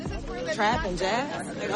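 A small crowd mingles and chats at a live music show while crew members set up gear, several voices overlapping in a steady, lively murmur with no single speaker standing out.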